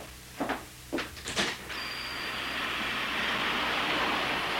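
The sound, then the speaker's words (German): A few sharp clunks and bursts of air give way to a steady, loud hiss with a thin high whine as a German train with a dining car stands waiting at platform 3, track B, before departing. No one speaks. “Der Zug wartet schon. Aber ich brauche noch nicht einzusteigen.”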